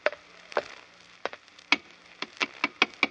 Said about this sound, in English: Why are you thumping on the pavement with your cane, Holmes? If you want to enter the shop, why not knock on the door?